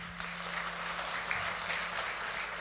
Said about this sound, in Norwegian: Tusen takk til dette teamet her. Kan vi gi dem en applaus?